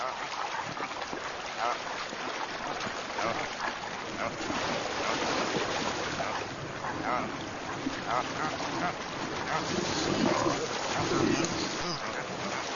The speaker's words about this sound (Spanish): Podrían ser arrastradas por la corriente con demasiada facilidad. El agua rápida y helada no es un problema para las madres caribúes, pero sí un verdadero desafío para las más pequeñas.